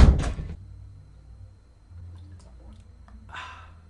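A small door opens with a sharp rattling burst to let someone out, then after a few quiet seconds of low background hum it closes again with a second, softer clatter.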